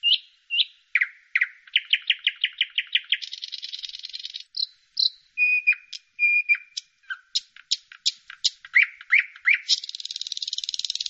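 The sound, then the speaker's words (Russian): A Eurasian bullfinch calls and sings, a busy run of rapid trilled notes, short whistles and buzzy phrases repeating with no pauses and no voices. “И записать голос снегиря тоже редкость.”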